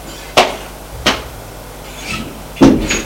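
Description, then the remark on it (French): An apartment door being opened: a few sharp clunks and clicks from the latch and handle, spaced unevenly, with a soft scrape of movement between them. No one speaks. “Il va ouvrir la porte de son appartement.”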